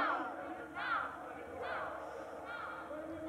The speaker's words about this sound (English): In the background, you can hear some of the young people shouting. Freedom! Freedom now!